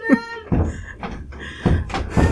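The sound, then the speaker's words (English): A kid knocks heavily on a door several times in an irregular series of loud thuds, after a brief tonal sound at the start. “Hold on, there's a kid knocking down my door.”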